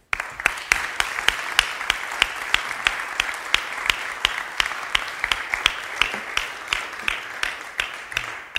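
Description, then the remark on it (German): An audience applauds five discussion participants steadily, a dense wash of many hands clapping with a few sharper, louder claps standing out at regular intervals throughout. No one speaks over it. “Und ich glaube, jetzt wird es Zeit, dass die fünf den verdienten Beifall bekommen.”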